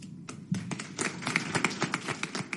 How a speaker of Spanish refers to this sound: Es el primero de los aplausos que ha querido dedicar el presidente a su ministro saliente.